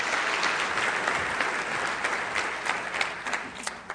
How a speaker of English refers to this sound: Thank you. I mentioned the last service, I'm always wary when you clap before you've heard anything I have to say. It's gracious of you, I appreciate that.